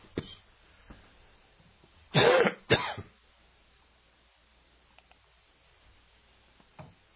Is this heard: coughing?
yes